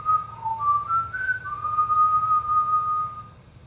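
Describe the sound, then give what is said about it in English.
Someone whistles a short, clear melody, the pitch stepping up and down before settling into one long held note, over a low steady background rumble. “starts whistling.”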